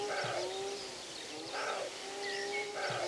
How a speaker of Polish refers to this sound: Z większą mocą, że tak powiem, to sarna, zaniepokojona.